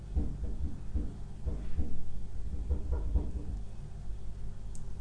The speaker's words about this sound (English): And further in the distance, there's a train. So I can hear a train going past. It's not going past, it's quite a couple of miles away probably.